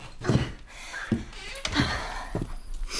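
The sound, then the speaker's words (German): A door being opened as someone steps out in front of the house, with a few dull clunks and thumps spread over a few seconds, like handling and footsteps. Fairly quiet, with no talking. “Ich gehe mal kurz vor die Tür.”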